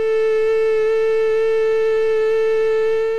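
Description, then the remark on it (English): A female mosquito's wingbeat as a loud, unbroken whine, one steady mid-high pitch with faint higher overtones stacked above it, droning on without change for about three seconds. “And here's a female.”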